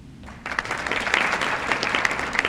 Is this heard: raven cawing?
no